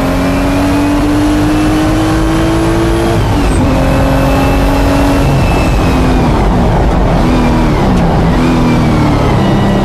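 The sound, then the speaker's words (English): A car engine revs loudly and steadily as it is driven, its pitch climbing, dropping briefly at a gear change, then climbing again as the car accelerates, with no one speaking. “And the pedals are so far over to the right on this car, it's insane.”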